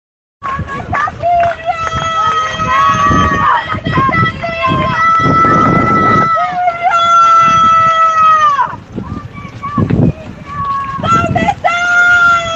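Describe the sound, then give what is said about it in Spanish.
A large crowd of protest marchers shouts and chants in the streets of Viedma, loud, with overlapping voices rising in sustained bursts and brief dips between them. “El pasado sábado, las calles de Viedma fueron un grito de muchas gargantas.”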